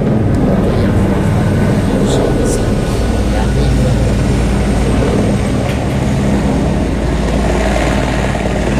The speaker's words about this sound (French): C'est quoi ça ? L'hélicoptère. Il va sur la piste.